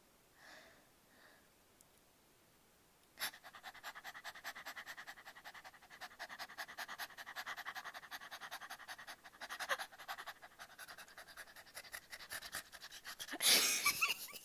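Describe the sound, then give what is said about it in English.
A person imitates a dog panting: rapid, breathy huffs in a steady rhythm, fairly loud, running continuously for about ten seconds after a brief quiet start. “Yeah, you make me pant like a dog because you're so hot.”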